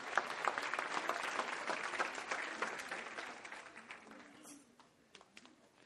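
A large group gives the Lord a clap offering in dense, steady applause that stays loud for several seconds, then thins out and fades to scattered claps near the end.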